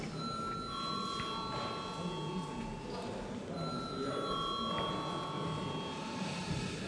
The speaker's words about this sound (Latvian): Lūdzu zvanu.